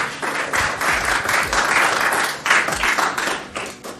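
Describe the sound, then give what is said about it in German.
A crowd at the Fintech Week applauds a guest at the end of an on-stage talk, many hands clapping steadily in a dense, continuous wash of sound that stays fairly loud throughout, with no voices standing out. “einmal Applaus für Klaas gerne”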